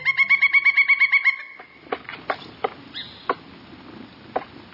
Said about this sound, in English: A 16-inch pileated woodpecker is hammering its massive chisel of a bill against a cedar trunk, making large rectangular incisions, some nearly a foot long. This carpenter seeks out another. Within the trunk swarm many thousands of carpenter ants.